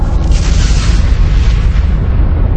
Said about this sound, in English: In a colossal cosmic collision, it slammed into our planet, creating our moon, and according to Crisp, removing the atmosphere that still blights Venus.